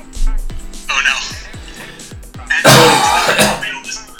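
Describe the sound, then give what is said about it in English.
Someone coughs and clears their throat hard over a few seconds after something went down the wrong way, with a loud burst of rough coughing near the end, while music plays steadily in the background. “just excuse me for a second, because I have to cough, because that went the wrong way.”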